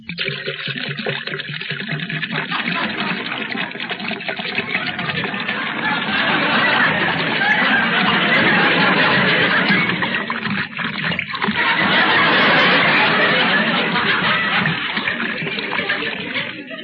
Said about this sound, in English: There's such a lump in my throat, I'll have to wash it down. Well, I'll pour myself a glass of water.